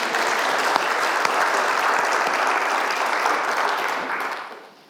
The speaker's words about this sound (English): Big round of applause for our volunteers.